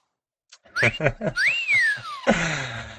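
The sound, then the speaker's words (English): A toy monkey lets out a loud wolf whistle, a quick rising note then a long falling glide, preceded by a few chirpy squeaks and trailing into a buzzy, rattling sound. “Yeah, and the other one whistles like you're hot.”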